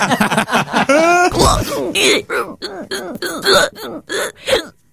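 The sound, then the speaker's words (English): A rapid string of hiccups edited together back to back, with the gaps between them cut out: about a dozen or more short, loud voiced yelps in a quick, almost rhythmic run, some higher-pitched, with no talking between them. “Well, I literally just put all of the hiccups together.”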